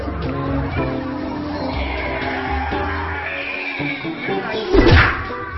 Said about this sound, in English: That's the Bible hitting him in the face.